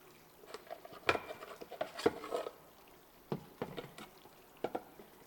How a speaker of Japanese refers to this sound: さてと、じゃあこの炭酸入りのボディーソープで、まずはお体洗っていこうかな。君の好きなシュワシュワなボディーソープだよ。